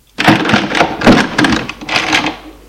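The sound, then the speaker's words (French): A front door opens one evening after the doorbell is rung, with a clatter of the latch, then a couple of clunks and a soft creaking rustle, loud and lasting a couple of seconds, with no voices. “Elle lui ouvre.”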